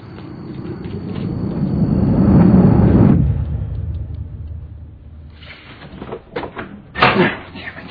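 A low rumbling swell fades out, then a few sharp, irregular bangs and rattles follow, like a door being struck and shaken.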